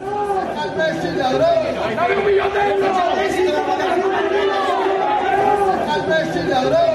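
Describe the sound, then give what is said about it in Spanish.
A crowd in Barcelona shouting over one another at Paris Saint-Germain president Al-Khelaifi as the Paris Saint-Germain team arrives at its hotel, with overlapping raised voices and jeers forming a loud, continuous clamor that never lets up across the whole stretch. “Los gritos al Khelaifi, sobre todo el presidente del Paris Saint-Germain, en la llegada del Paris Saint-Germain al hotel de concentración en Barcelona.”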